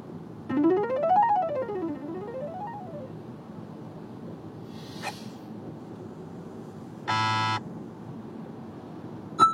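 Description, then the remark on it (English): Steady low road traffic rumble in the rain throughout, with a wailing, rising-and-falling siren early on and a short, loud horn-like blast near the end. No one speaks. “Probably start stop listening to all these before I actually do lose my mind here in traffic.”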